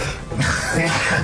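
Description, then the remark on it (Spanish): A single sneeze caused by an allergy, on a live radio broadcast: a sudden, loud, breathy burst that holds for most of a second, with a rough throaty edge and no talking around it. “Está al aire, compañero, estornudando.”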